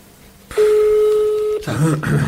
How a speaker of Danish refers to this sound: Jeg tager lige og ringer til hende.